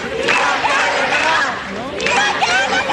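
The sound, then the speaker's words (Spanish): A large crowd of young people shouts and chants in unison at an election rally in the París-Londres neighbourhood sector, shouting throughout the afternoon; many overlapping voices form a loud, steady roar with rising cries that swell again after a brief dip. “Han estado gritando durante toda la tarde, a diferencia de lo que se pensaría, ¿no?”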